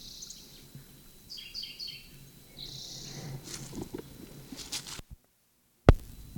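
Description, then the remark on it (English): Short bursts of high bird song from a bird in an oak beside the Moline fence, on the west side of the first draw, ring out over a low outdoor rumble, a few phrases repeating, followed by a sudden silence and one sharp knock. “Bird sang from oak beside Moline fence and then went back to gully at down log at 8 o'clock.”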